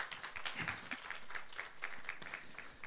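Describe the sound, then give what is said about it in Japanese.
An audience at a church service breaks into steady applause to praise the Lord, many hands clapping together in a dense, sustained patter of moderate loudness, with no voices standing out. “どうか拍手を持って主を褒めたたえます。”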